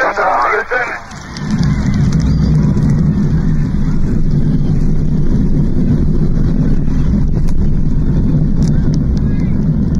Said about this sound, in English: imagined the day on July 16, 1969, when the Apollo 11 Saturn V lifted off from Kennedy Space Center Launch Complex 39A on Merritt Island, Florida. T-minus 10, 9, 8. We have a go for main engine start. We have main engine start. 4, 3, 2, 1, 0.